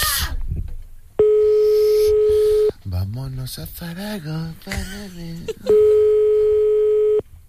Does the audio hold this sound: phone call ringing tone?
yes